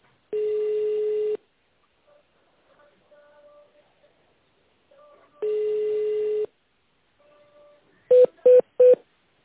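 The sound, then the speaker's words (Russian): Two long, steady telephone tones separated by a pause, then three quick, evenly spaced touch-tone beeps as an extension number is keyed in tone mode. No one speaks. “Если вы знаете внутренний номер абонента, наберите его в тональном режиме.”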